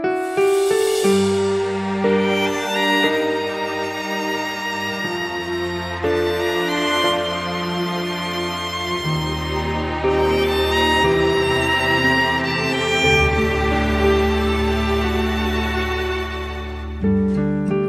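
An Indonesian song plays continuously at a steady, fairly loud level, with rich sustained melodic tones over a deep bass line and no speech over it.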